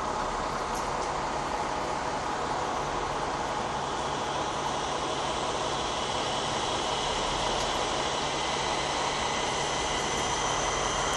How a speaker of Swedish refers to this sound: Det blev ett litet uppehåll där, för folk gick förbi i regnet. Ja, det är ett riktigt dassigt väder, om man nu inte gillar regnväder.